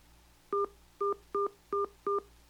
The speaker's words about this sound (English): Please enter your passcode, then press pound.